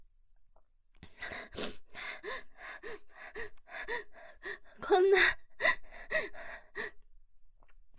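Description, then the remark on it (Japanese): A voice forces out a rapid string of croaky, belched syllables, burping the phrase "Andromeda da da zo" in about a dozen rhythmic bursts, the burped words growing louder near the middle before trailing off. “人のゲップ聞いて楽しいんですか？”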